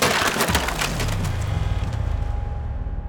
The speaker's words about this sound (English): Open up, or we'll break down the door. Break it.